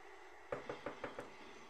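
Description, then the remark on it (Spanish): Five evenly spaced knocks on a door, sharp, rapping in a steady rhythm before it falls quiet again. “De pronto, toca en la puerta.”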